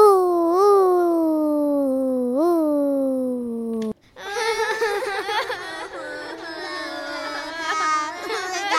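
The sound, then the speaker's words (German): A baby lets out a long, sustained wail with a couple of rising hitches, then after a brief gap breaks into excited, warbling babbling and fussy cries, fairly loud. “Hey, das sind ja wir. Wir sind noch Babys.”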